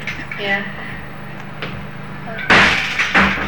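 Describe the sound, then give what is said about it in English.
A door slams shut with one loud, sharp bang near the end, followed by a brief rattling echo, after a few seconds of faint murmuring voices and room noise. “I slammed the door, the recorder's on.”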